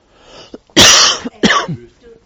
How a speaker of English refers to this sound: I think I may be developing a bad cough.